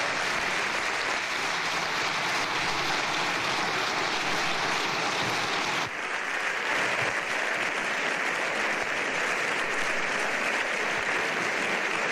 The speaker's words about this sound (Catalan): Doncs aplaudiments i la bancada socialista i els socis de dins i fora del govern dempeus aplaudint a aquesta hora aquesta llei que ha quedat aprovada, la llei d'amnistia, dia històric al Congrés dels Diputats.